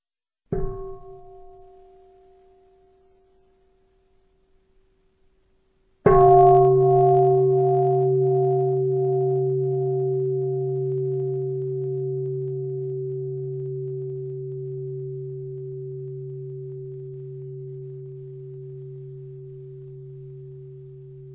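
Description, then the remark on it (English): A meditation bell in Plum Village is struck twice: a soft first tap that fades, then a full, deep ring whose low humming tones linger and slowly die away over about fifteen seconds, with no talking. “This is the sound of the bell in Plum Village.”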